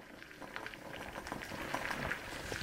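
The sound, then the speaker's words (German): In the wood research lab of the Thünen Institute in Hamburg-Bergedorf, water boils vigorously in a small beaker, cooking a cube-sized piece of wood that hops on the gas bubbles: a dense, steady patter of popping bubbles that swells slightly in loudness. No one speaks. “Der Würfel hüpft auf den Gasbläschen in einem kleinen Becherglas.”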